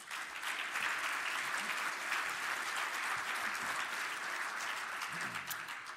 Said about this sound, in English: But I wanted to welcome our panel, a little round of applause for them.